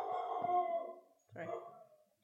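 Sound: dog barking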